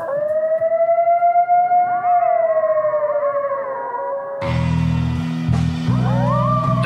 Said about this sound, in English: Settle down, coyotes.